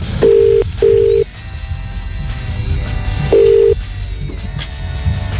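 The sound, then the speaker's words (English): A telephone ringing tone as a phone call is being made: a quick double burst of steady electronic tone, a pause, then another burst, heard clearly over a low background rumble with no one speaking. “It's time to make the phone call.”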